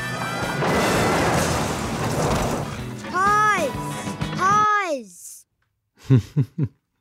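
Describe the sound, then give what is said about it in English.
A voice mimics police cars crashing one after another in a movie car chase pileup, some ending upside down: a long, rough crashing rumble, then two rising-and-falling siren-like wails, a pause, and three short punchy bumps at the end. “They continue okay, but the cop car behind them crashes, followed by the one behind them and the next one, some upside down.”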